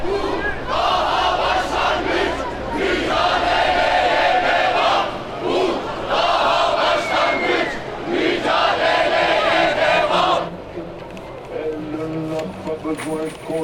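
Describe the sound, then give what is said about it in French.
A large protest crowd in Istanbul shouts and chants in loud, rhythmic bursts of massed voices, surging in waves for about ten seconds before dropping to a rougher, quieter murmur, on 31 May 2016, the third anniversary of the Gezi movement. “Alors on cherche ces instants où Istanbul cesse de ventriloquer et arrive à hurler sa colère.”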